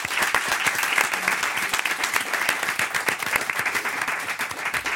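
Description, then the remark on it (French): Sustained applause from an audience welcoming paleontologist Yves Coppens, a dense steady wash of many hands clapping at once, loud and even throughout with no voices standing out. “Applaudissements pour le savanticus sympathicus Yves Coppens.”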